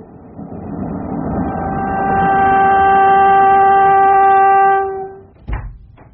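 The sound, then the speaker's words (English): A train rushes along with a steady, loud rumble while a sustained whistle-like horn tone swells and holds, then cuts off, followed by a sharp thud and a brief burst of noise as a carriage door is opened on the speeding train. “If you don't open that door and jump, I'll kill you now. Oh, it's down a chance the speed the train's going.”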